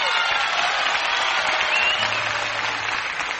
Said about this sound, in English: The boy that we have with us tonight is something extra special. So let's all give him a big round of applause and a regular Grand Ole Opry welcome.